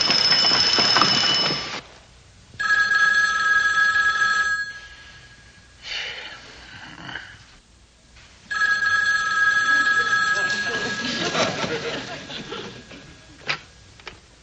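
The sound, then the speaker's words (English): An old-style telephone bell rings in two long, loud bursts with a brief silence between as a call is placed home, followed by a quieter, muffled stretch where faint voices talk near the end. “Well, I'm going to call home anyway.”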